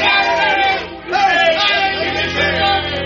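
A large crowd in a castle courtyard cheers and shouts wildly, a dense, continuous roar of many excited voices with a brief dip in the middle before surging again, loud throughout.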